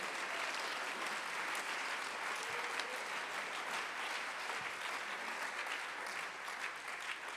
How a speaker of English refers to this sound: Would you clap your hands right now unto the Lord? Aplaude tus manos ahorita.